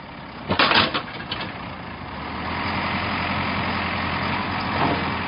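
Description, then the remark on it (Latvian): A heavy off-road vehicle engine drones steadily as it drives several kilometres through a forest to a construction site at the border with Russia, with a few sharp knocks and rattles early on, like the body jolting over rough ground. “Pēc tam mēs ar apvidus automašīnām dodamies uz būvniecības vietu.”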